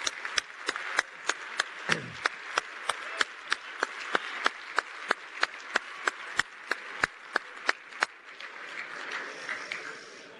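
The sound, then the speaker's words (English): Steady, rhythmic clapping at the Greater Cleveland Sports Awards for the night's nominees and winners, about three sharp claps per second over a hiss of crowd noise, keeps an even beat for roughly eight seconds before stopping and leaving a murmur behind. “For all those who were nominated, for all those who won tonight, one more round of applause, if we would.”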